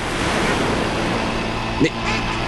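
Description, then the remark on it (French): A low, steady engine drone of an approaching boat hums beneath a constant wash of ocean surf and wind at an island, with a brief bump of noise near the end. “Mais c'est un bateau qui approche.”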